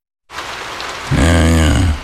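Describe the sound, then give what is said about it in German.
Steady rain hisses, starting abruptly and continuing throughout; about halfway in, a louder low, wavering tonal hum swells over the downpour. “Regen.”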